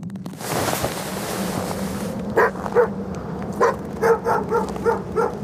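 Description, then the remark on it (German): Several sled dogs bark in short, repeated bursts beside a fully loaded sled over a steady rushing wind-like background, the barks coming in an irregular restless rhythm, on a clear, cold polar night with a light westerly wind and falling snow. “Ein leichter Wind weht von Westen, und Schneeflocken tanzen über die unruhig scharrenden Hunde und den vollbeladenen Schlitten.”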